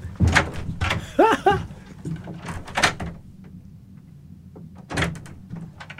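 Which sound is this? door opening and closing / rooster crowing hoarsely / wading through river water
door opening and closing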